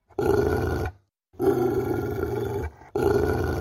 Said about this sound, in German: Was war das? Hat Bodhi da eben geknurrt? Und warum? Und darf der das überhaupt? Ist er dann ein böser Hund?